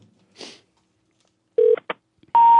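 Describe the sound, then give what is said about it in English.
A soft rustle, then a few short electronic telephone tones in quick succession before a loud, steady line tone begins and runs to the end, as if a call is connecting. No one speaks. “It sounded like somebody was answering the phone.”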